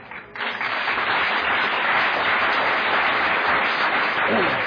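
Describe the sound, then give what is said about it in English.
A crowd breaks into steady, loud applause for the speaker's wife that starts abruptly and holds dense and even for several seconds, with no one speaking over it. “And that applause, I know, is for her, having put up with this all that time.”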